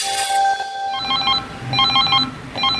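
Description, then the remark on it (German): A smartphone ringtone plays in repeated bursts of bright, trilling electronic tones, three clear rings over a few seconds, loud, with no voices. “Damit unsere Smartphones klingeln, brauchen sie einen Akku, eine Batterie.”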